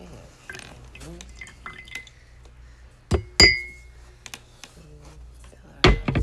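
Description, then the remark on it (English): The last of a bottle of liquid is poured out into a glass, with soft trickling and a few sharp, ringing glass clinks, the loudest around the middle, under faint background voices. “This is the end of the bottle. Your podcast is coming to an end. Pour out all of it.”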